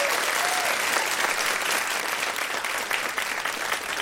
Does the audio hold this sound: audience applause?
yes